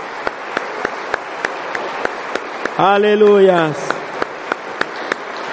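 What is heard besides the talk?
audience applauding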